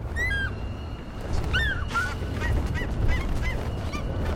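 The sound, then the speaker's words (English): A busy chorus of bird calls recorded by a sound engineer, mostly goose-like honks overlapping one another in quick, irregular bursts over a steady rumbling background, moderately loud throughout. “This is a story of the beginning of the war when a sound engineer is trying to record unique sounds of birds and eagle in particular.”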